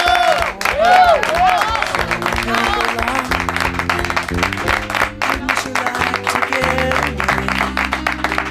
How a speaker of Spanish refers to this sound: Un aplauso para...